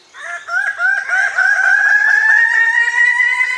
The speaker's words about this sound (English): It's early morning on the island of New Guinea. The lowland forest erupts with the crowing calls of male Ragiana birds of paradise.